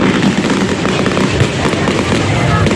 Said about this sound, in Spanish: Sonido de la pirotecnia, de ese espectáculo de fuegos artificiales que ha sido, por cierto, muy, muy aplaudido.